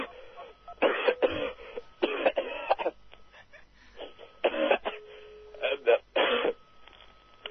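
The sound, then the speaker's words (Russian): A harsh, hacking smoker's cough from a man who smokes a lot comes in several rough bursts, with short pauses and throat clearing between fits. The sound is thin and band-limited, like it's coming over a phone line. “А что так кашешь? Ты что, туберкулез, что ли? Курю много, блядь.”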